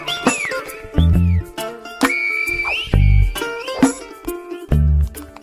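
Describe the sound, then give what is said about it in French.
Silbo Gomero whistled language on the island of La Gomera: high, gliding whistled tones rise and fall in short phrases, punctuated by deep, booming low thumps that recur every second or two. No one speaks. “Sur l'île de la Gomera, on entend El Silbo en écho.”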